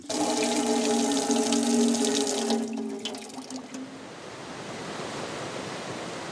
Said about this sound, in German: Oh. Hier ist ja auch noch Wasser. Bei der Waschmaschine im Keller. Und hier ist ein Wasserhahn.